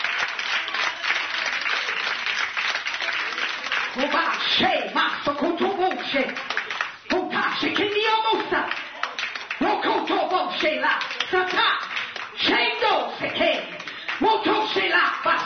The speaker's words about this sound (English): Clap them hands and praise the Lord.